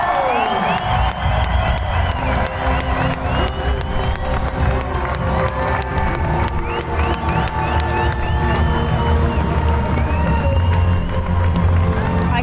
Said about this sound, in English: But yeah, huge cheer for Pauline Ferrand-Prevot. What a moment for her, what a moment for this race, I would say.